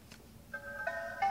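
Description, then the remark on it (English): A short phone alarm tone, previewed in the phone's sound settings, plays alone after a brief quiet moment: a bright synthesized melody of a few clean stepped notes that grows slightly louder toward the end. “Notification sound, slate. Alarm.”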